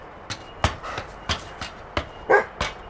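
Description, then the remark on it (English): Two nervous dogs bark in short, sharp bursts about every half second, with one higher, yelping bark standing out near the end; loud, with no talking. “I don't think they like being this far up. I'm telling you, I think I'm with the dogs.”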